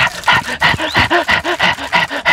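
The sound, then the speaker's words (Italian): A dog pants rapidly and rhythmically, with about ten quick breathy huffs in a steady pattern and a faint whine partway through. No barking and no voices. “Questo è sempre cane, però che fa altre cose.”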